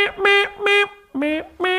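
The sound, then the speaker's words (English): A voice imitates a trumpet with four loud, brassy toots in two pairs, the second pair starting low and sliding up in pitch, with no other sound. “Trumpet sounds until I get back.”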